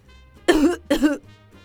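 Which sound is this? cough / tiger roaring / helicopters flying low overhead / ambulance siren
cough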